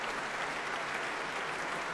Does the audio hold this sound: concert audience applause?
yes